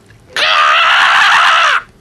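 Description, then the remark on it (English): A single loud, raspy screech lasting over a second, made by a human voice imitating a crow, harsh, with a steady sustained pitch before cutting off abruptly. “do you do the crow screech again?”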